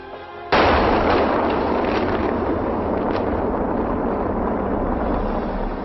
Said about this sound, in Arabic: هذا الانفجار شكل في بدايته شعلة نار التهمت سلسلة جبال نقم وشكلت ما يسمى بعش الغراب في فضاء العاصمة. حمل هذا الانفجار كما هائلا من الأحجار والأتربة مصحوبا بشظايا كبيرة من شظايا تلك القنبلة.